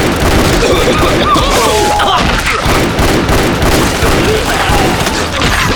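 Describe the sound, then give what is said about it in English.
Rapid gunshots from a Colt .45 revolver fired by fanning the hammer while turning in a complete circle in a room, cracking out in a dense, nearly continuous volley, loud sharp reports blurring into one another for several seconds with hardly a pause. “Knowing he'd be dead in seconds if he didn't react fast, he gained his feet, hunkered down on his heels, drew one of his two Colt 45s, and fanned the hammer, jerking in a complete circle as he fired.”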